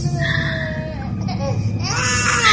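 A young child crying loudly and continuously, with wailing, wavering pitch close to the listener, growing more intense toward the end, over a low background rumble.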